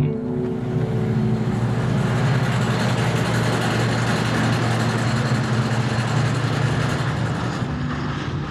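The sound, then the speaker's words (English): Hydraulic drills and compressors at a fracking site run in a constant, loud mechanical drone, with a steady low hum and a broad rushing noise that never lets up. No one speaks. “In some parts of the country right now, that sound, hydraulic drills and compressors used in fracking, is a constant presence.”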